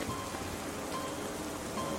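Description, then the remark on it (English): Steady, heavy rain pours down in a dense, continuous hiss, even throughout, with no voices or other distinct sounds standing out. “He drew his gun and disappeared into the heavy rain.”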